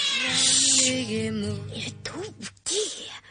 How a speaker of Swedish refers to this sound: Är det inte främmande katter här och ylar igen?